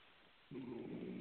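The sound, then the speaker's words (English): A dog's low, rumbling snore starts abruptly partway through and continues steadily in the background, moderately loud over a faint background hiss. “Excuse my dog snoring in the background.”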